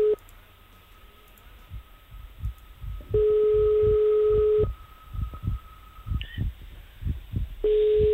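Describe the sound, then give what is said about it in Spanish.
Steady telephone ringback tones repeat on a call placed to someone at home in Miguel Turra, Ciudad Real, Spain, each a long flat beep followed by a pause, fairly loud over a low rhythmic background thumping. “Vamos a ver si le localizamos. Ahí está, tenemos 6 tonos de tiempo.”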